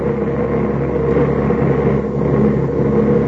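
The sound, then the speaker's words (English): A steady, loud engine drone hums without a break, low and rumbling with layered harmonic tones, from a passenger plane in flight bound for Peshawar. “Our plane should have landed in Peshawar at about 5:30.”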